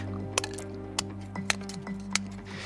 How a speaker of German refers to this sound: Die ist aus Plastik und die wiegt, wollen wir mal schauen, tatsächlich genau 5 Gramm. Und wenn ich diese Plastikkarte jetzt mit meiner Schere zerschneide, mache ich mal die Hälfte und dann ein Viertel und dann ein paar kleine Teilchen, immer kleiner.